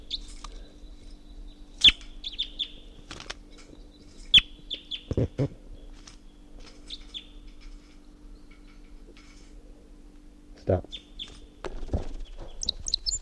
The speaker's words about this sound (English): Wild bird flight song. It's going toward the net. Stop. So recording 7:26. That wild bird is up in the tall pine above the net and was giving flight song and song phrases.